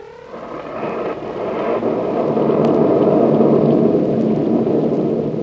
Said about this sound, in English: A storm rages outside the house